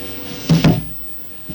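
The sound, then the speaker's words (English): A door is pushed shut with two quick, heavy thuds close together, followed by a faint knock a moment later. “You want to push that door too?”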